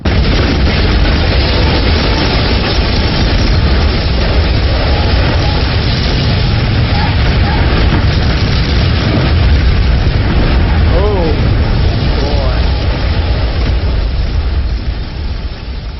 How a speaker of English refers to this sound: The explosion was heard by every single person within 30 miles of the tower.